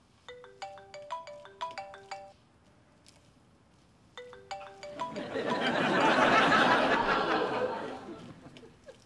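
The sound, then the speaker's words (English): A phone plays a bright, melodic electronic ringtone in two close bursts, then starts again and is drowned out by a loud, rising wash of broad noise. “Then answer the phone.”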